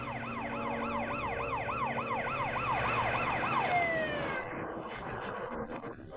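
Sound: police car siren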